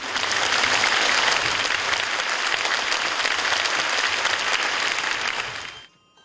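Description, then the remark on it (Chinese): Sustained applause from a large audience, a dense steady wash of clapping lasting several seconds before fading out quickly at the end, welcoming the musical 《小猪猪的话》, the closing act of the show. “让我们以热烈的掌声欢迎音乐剧《小猪猪的话》。”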